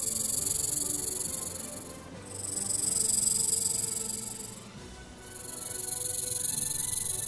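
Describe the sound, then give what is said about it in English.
Three big snakes hissing in a valley, in three long, loud, breathy swells, each fading briefly before the next rises, with no voices present. “There are three big snakes behind him.”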